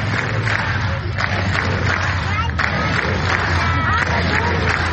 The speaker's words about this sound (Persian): این صدای تنها صدها تن از معترضان کاتالان است که روز سه‌شنبه در یک میدان در منطقه‌ای در شمال بارسلون گرد هم آمدند و فریاد زدند که رأی دادند.